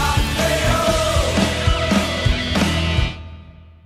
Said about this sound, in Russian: Ну что же, пар Латвию кричали трибуны на вчерашнем матче